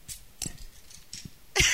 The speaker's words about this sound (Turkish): Kahvelerimiz yanımızda. İçelim. Ses çıkaracaklar biraz. Bu kahveler köpüren kahve de ondan.